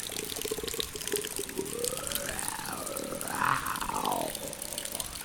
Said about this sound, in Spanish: Mientras la lluvia y el agua fluyen